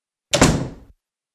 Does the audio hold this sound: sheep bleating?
no